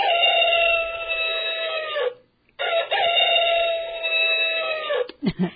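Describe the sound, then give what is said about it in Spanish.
A rooster-crow alarm clock sounds twice, two long, loud, drawn-out crows separated by a brief pause, followed by a couple of sharp clicks at the end. No one speaks. “Muchas veces algo tan sencillo como el despertador es lo que necesitamos, el conseguir un despertador.”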